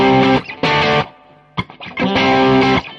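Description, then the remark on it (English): Bright, distorted electric guitar on the bridge pickup plays loud sustained chords in a few bursts, with a short pause and a quick picked fill in between, no voices. “Let's just do a little bit more playing, some chords and lead stuff, and I think that sounds pretty... We've got some good ideas of what's going on there. So, bridge pickup.”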